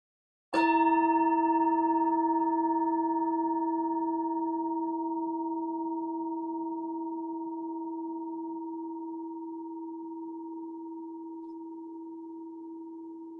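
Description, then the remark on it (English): A meditation bell is struck once and left to ring, its steady, pure tone with a few shimmering overtones slowly fading over more than ten seconds. No voices are heard. “Just going ahead and listening to the sound of the bell to the very last trace of sound.”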